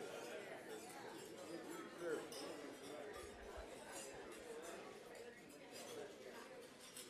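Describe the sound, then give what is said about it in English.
Glasses clink in a toast to a gathering of governors and their spouses amid a steady hum of crowd chatter, with light chinks of glassware and tableware scattered throughout. “But now I'd like to propose a toast to all the governors for your outstanding work, but especially to all the spouses who put up with us.”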